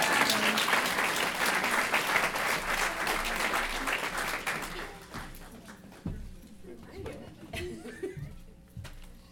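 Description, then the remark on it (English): An audience claps in a dense, steady burst for about five seconds while a guest is seated at the back, then the applause thins out and fades, leaving scattered voices and a little laughter. “so you're going to keep having to clap, because otherwise it's just going to be awkward.”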